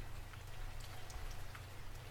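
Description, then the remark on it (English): Steady rain patters against a window, a soft, continuous wash of drops with occasional sharper taps, fairly quiet, with a low hum underneath and no voices. “The sound of the rain on the window.”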